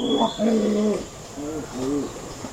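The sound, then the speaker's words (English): A cassowary gives a series of deep, throaty rumbling calls, low and resonant, repeated several times in close succession at moderate loudness with no talking. “Cassowaries may not be the cuddliest of birds, but people found a clever way to live beside them long ago.”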